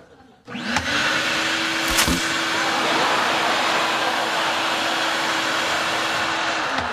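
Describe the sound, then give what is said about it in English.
A vacuum cleaner switches on and runs loudly and steadily, a broad whooshing roar with a constant motor hum, plus a couple of brief knocks early on. “Does a vacuum work? Is the vacuum. Watch this.”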